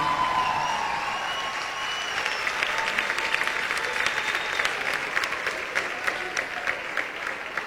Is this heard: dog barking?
no